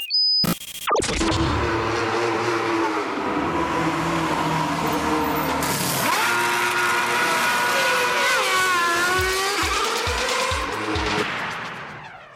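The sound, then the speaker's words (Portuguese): A short intro jingle built from loud race-car engine roars, revving and sweeping in pitch, after an abrupt start, lasting about twelve seconds with no talking. “Então, sem mais delongas, vou passar a vinheta e a gente vai começar a falar sobre o BTCC.”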